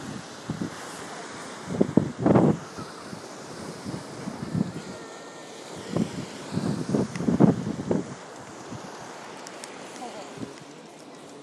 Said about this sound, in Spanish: Bueno, y finalmente creo que he encontrado el famoso muelle de madera de Sopot, que es el más grande de Europa en madera. Y aquí estamos en el rompeolas. Y hace virujillo, la verdad. Sopla el viento, pero bueno, la verdad que es muy bonito esto.